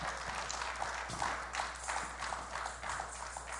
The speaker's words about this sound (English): Can somebody give the Lord a hand clap? Hallelujah.